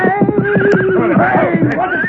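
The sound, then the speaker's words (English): A horse carrying a rider along a trail whinnies loudly in a long, wavering high-pitched call, with a steady rhythm of hoof clops underneath throughout. “Rider's coming this way on the trail.”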